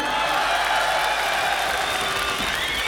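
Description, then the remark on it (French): A crowd applauds steadily, a dense wash of many hands clapping at an even loudness for a few seconds, with faint crowd murmur beneath. “Tu peux les applaudir.”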